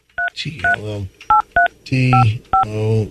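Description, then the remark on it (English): Six short, evenly spaced beeps from a phone keypad, each a bright two-tone chirp, dialing the tip line of Dog the Bounty Hunter while fuller, voice-like sounds fill the gaps between presses. “All right, hold on a second. Let me dial up again.”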